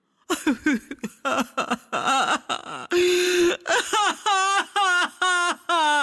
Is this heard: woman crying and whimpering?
yes